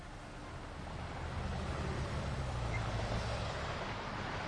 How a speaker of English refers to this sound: I am downtown at the height of rush hour, walking hurriedly amid the bustling people and traffic.